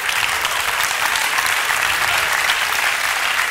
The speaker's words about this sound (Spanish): No, aplauden.